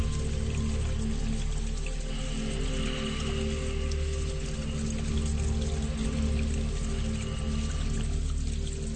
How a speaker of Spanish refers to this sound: Ubícate en una cascada, al pie de una cascada, una montaña alta, grande, bella, hermosa. La cascada cae desde lo alto de la montaña y al final se ha formado una cueva. El agua continúa cayendo por la pared